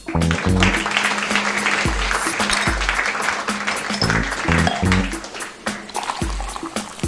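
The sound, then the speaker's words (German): Loud, sustained audience applause crackles for several seconds, layered over a bouncy musical jingle with deep, stepping bass notes; no one speaks. “Und jetzt euer Applaus und eure Bühne.”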